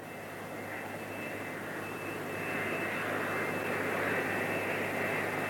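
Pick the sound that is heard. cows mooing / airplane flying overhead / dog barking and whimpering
airplane flying overhead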